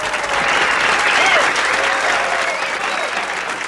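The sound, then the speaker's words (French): A large audience claps steadily and loudly as Lenny Bruce is introduced, a dense, continuous wash of applause that holds at full strength for a few seconds, with faint voices mixed in. “Tout de suite, dans toute une vie, Lenny Bruce, sous vos applaudissements.”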